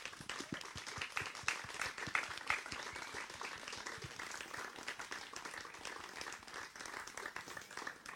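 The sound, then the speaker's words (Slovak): An audience gives its guests another big round of applause at the close of an afternoon event, dense overlapping hand claps at a steady, fairly loud level for several seconds, with no voices standing out. “Myslím, že si naši hostia zaslúžia ešte jeden veľký potlesk.”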